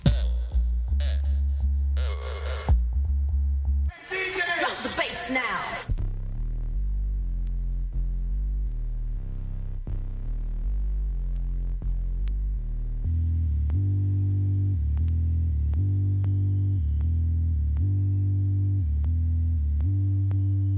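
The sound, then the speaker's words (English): A loud techno rave track made in Stafford and recorded on a 4-track in 2 hours, driven by a deep, throbbing low-frequency bass with repeating synth tones, opening with a few short bright noisy bursts before the steady pulsing groove takes over. “Instantly massive techno rave stomper, complete with obligatory low frequency bass, created in Stafford”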